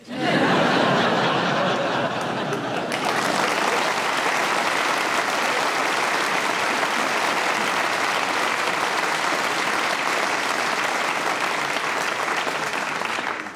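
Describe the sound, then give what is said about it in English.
An audience bursts into laughter and clapping at the mention of Duolingo, the laughs fading after a few seconds while dense, steady applause carries on loudly for over ten more. “I can tell because when I say Duolingo, people clap and laugh.”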